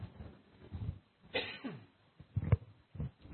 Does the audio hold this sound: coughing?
yes